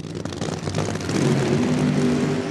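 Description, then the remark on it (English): A nitromethane supercharged top fuel dragster engine revs hard, a loud, harsh roar whose pitch climbs and then holds steady at a thunderous level for a couple of seconds, with no voices. “If the sound of that nitromethane supercharged engine makes you go all wobbly, the National Hot Rod Association has the sport for you.”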